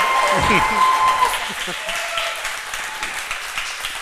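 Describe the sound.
An audience breaks into sustained applause for a guest, a dense wash of clapping that stays loud throughout, with a brief voice or cheer rising out of it near the start.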